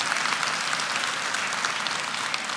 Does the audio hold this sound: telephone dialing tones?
no